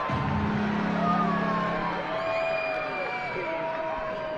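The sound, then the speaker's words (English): A ballpark crowd at Coca-Cola Park during a Pigs versus Woo Sox game cheers and roars in a dense, steady wash of voices with scattered shouts and whoops, peaking early and then easing slightly as the noise simmers down. “Crowd swelled to a crescendo, now simmers down.”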